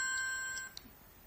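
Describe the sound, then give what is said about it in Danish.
A telephone rings with an incoming call: a short electronic ring with steady tonal lines that cuts off abruptly after about two thirds of a second, fairly quiet, followed by a brief click and near silence. “Nu ringer de. Nu ringer op til os.”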